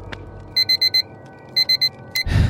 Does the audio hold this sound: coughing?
no